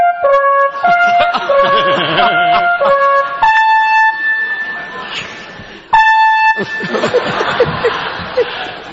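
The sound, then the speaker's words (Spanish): An alarm connected to the fire department blares in loud, repeating electronic tones that switch between pitches in steady bursts, with people laughing and chattering underneath. “Esto estaba conectado a los bomberos. Sí, es la, no, la alarma sobona.”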